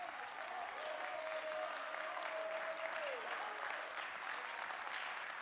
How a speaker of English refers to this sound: Clap your hands. Clap, clap, clap. What does that sound like? The more you clap your hands, the more it sounds like rain.